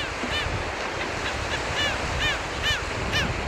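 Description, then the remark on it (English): Repeated high, harsh calls of a nesting colony of royal terns, gull-billed terns and black skimmers ring out every half second or so over a steady wash of surf and wind, on the man-made South Island at Hampton Roads. “After the South Island was built, it was discovered by seabirds, royal terns, gull-billed terns, and black skimmers that nest in tight colonies, according to Virginia Tech professor Sarah Carpentier.”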